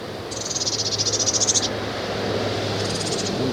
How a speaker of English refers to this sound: And it's just begging calls now.